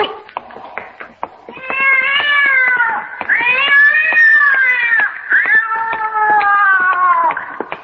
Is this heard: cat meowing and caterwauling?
yes